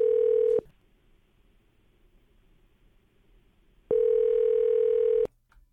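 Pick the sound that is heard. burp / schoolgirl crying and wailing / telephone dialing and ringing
telephone dialing and ringing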